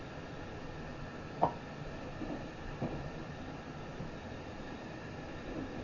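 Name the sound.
train running between stations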